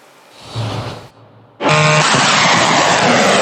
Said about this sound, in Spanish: Son drones de combate iraníes disparados al cielo nocturno. Este nuevo video se muestra en los medios estatales de Irán.